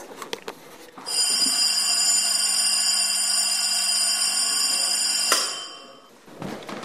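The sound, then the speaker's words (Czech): The old electric bell of the local school, which the headmaster could operate, rings loudly and steadily for about four seconds, a rattling metallic clang with bright sustained overtones, then stops abruptly and its ring fades away. “A tady je právě zvonek, který pan řídící mohl ovládat.”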